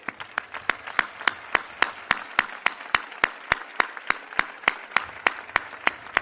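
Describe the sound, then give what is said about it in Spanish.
Sustained applause from a crowd in memory of people who died during the season, with a dense wash of clapping and a steady, regular beat of loud, sharp claps cutting through it, continuing without pause and with no talking. “Creo que es el momento de mirar al cielo y dedicarle un fuerte aplauso en su memoria.”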